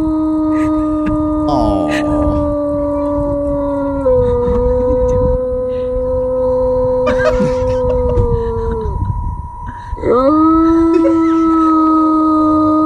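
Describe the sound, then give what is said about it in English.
A dog coming out of anesthesia, filmed by its owner, lets out long, drawn-out howls, its voice wavering and sliding in pitch with brief breaks between, while a faint steady electronic hum sits in the background. “So as he's coming out of coming under, the owner is taping him, and he's just, the dog just appears to be complaining.”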